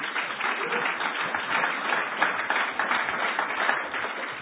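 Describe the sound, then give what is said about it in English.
A steady burst of audience applause, dense overlapping claps holding at an even loudness for several seconds with no voices over it. “How about a warm round of applause?”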